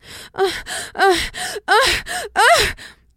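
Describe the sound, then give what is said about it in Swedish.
A voice imitates a series of about five breathy, gasping moans, the way women are taught in porn to breathe during sex, each a short voiced breath with a pitch that swoops up and down, repeated in a steady rhythm, fairly loud, with no talking. “Och då säger hon att så här, i porr får vi lära oss att kvinnor ska andas så här när vi har sex.”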